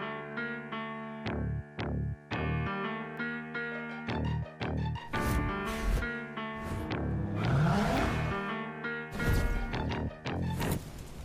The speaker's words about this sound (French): Des gros moteurs. J'adore les bruitages.